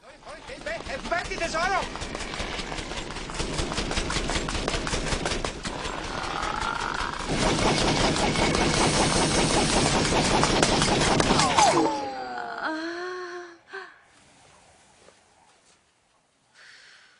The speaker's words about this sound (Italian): Questo invece è nuovo. Sta sparando con un cannone di luci.